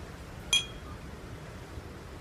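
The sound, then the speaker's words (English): A single bright clink as two glasses touch in a toast aboard a cruise ship, a short ringing chime that fades quickly over a steady low background hum, with no one speaking. “Well, here's to you having more fun on the rest of this cruise. Cheers.”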